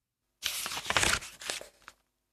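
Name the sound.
paper being cut out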